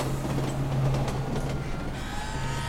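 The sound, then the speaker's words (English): A steady, loud rumble of the 1:42 p.m. elevated L train rolling past, headed downtown, with a low droning hum and some metallic squeal rising near the end, no talking. “And there's the 1:42 p.m. L train headed downtown.”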